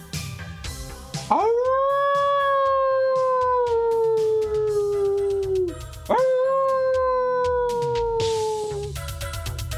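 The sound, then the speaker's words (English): Two long, rising-then-falling howls from coyotes, loud and close, each sustained for several seconds with a brief break between them, over a background of other yips and calls, as darkness falls in the evening. “Coyotes. And they were close.”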